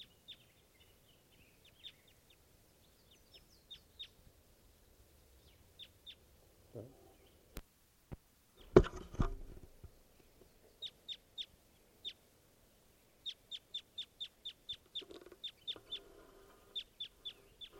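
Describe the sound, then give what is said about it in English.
A wild bird gives a series of short, sharp clucking calls, scattered at first and then in quick runs, with a brief louder thump partway through and no one talking. “Stop. Here's a wild bird.”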